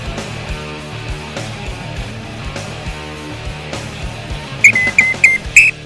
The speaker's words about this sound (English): All right, hey, the little red whistle didn't make its appearance yet, but I had to bring it back out. You want to know why? We're here coaching. I got to get a new whistle. It doesn't work for me more than it works.